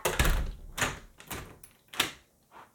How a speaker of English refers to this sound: And you can hear all this stuff on the recording, ducking under the blind, closing the door.